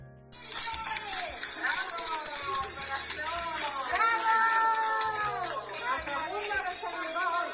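A group of nurses applauding without pause, their steady clapping mixed with lively cheers, whoops and overlapping excited voices that stay loud throughout.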